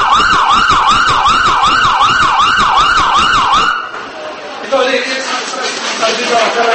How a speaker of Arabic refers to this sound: ليست هذه أصوات عربات إسعاف تنقل جرحى حادث انفجار حصل في الأنبار، لكنه مجرد تدريب لما يعرف بقسم الأمور الطبية في مديرية شرطة الأنبار الذي استحدث مؤخرا.